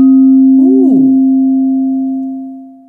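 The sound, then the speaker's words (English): A struck singing bowl rings with a steady, sustained tone. A brief wobbling swell bends the pitch early on, and then the hum fades slowly. No voices are heard. “So we start with you striking the bowl and getting it, and then I'll do the stuff, and then you can do it during, or we'll do it again after, or whatever.”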